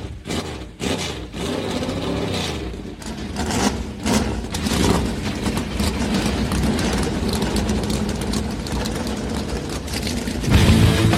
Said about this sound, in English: Drivers! Start your engine! The command has been given. Let's crank him up.